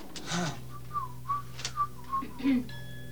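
A person whistles a light, wandering tune in short melodic phrases, fairly close and clear, with a low steady hum underneath and a few soft rustles.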